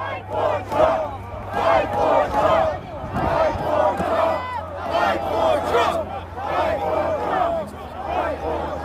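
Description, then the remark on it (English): A large protest crowd chants outdoors under gray skies on January 6, 2021, presumably near the White House in Washington, DC. Many voices rise together in loud, rhythmic bursts roughly every second, over a steady low rumble and the general roar of the mass. “In this video, which I first saw on the day he posted it, almost in real time, Guangcheng stands under a gray skies with a much larger crowd, presumably somewhere near the White House.”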